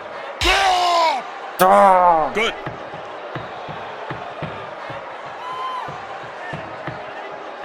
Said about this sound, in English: Hey there, ringside wrestler noise. So basically, this is trying to be some kind of reenactment of a boxing match, I think. Whoa. Who is punching the ringside guy? I wonder.